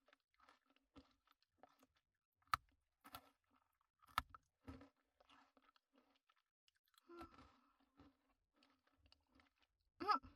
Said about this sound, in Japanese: はい、どうぞ。ポリポリいい音が鳴るの、すっごく好き。